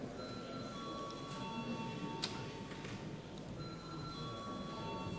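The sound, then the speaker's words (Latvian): A parliament chamber bell rings without pause to call members to vote on amendments to the value added tax law under urgent procedure, a steady metallic rattle with sustained ringing tones, moderately loud and unbroken by speech. “Lūdzu zvanu.”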